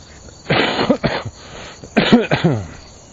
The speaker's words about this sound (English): There I go with that coughing again. Into the same handset.